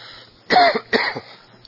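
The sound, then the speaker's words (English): Two quick, harsh coughs or throat-clearing bursts, about half a second apart, in otherwise quiet surroundings with no talking. “Excuse me, I hear your cough drop.”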